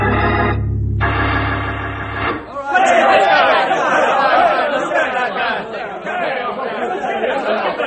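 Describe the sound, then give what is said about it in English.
A sustained harmonic tone cuts off after about two seconds, then a loud, dense crowd commotion erupts as a man tries to get through the crowd: many agitated men's voices shouting and talking over one another in a continuous, churning roar. “What's the commotion?”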